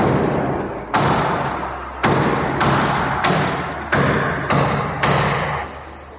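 Heavy sledgehammer blows from resident Fernando Prieto pound against a seemingly ordinary wall in front of his parking space in an apartment building's garage in Madrid, Spain: about eight loud, booming strikes at an uneven pace, each ringing out with a long echoing decay before the next hit. No voices are heard.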